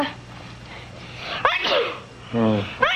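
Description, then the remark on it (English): A sharp sneeze bursts out after a brief buildup, followed by a short voiced sound and a second quick sniffing burst near the end, with a low steady hum underneath. “It was just an ordinary sneeze.”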